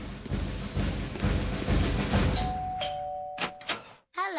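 A doorbell rings with a steady, clear electronic tone over a dense rumbling background, punctuated by a few sharp thuds, before a voice briefly starts at the end.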